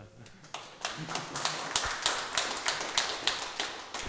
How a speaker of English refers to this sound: Applause for most of you at least.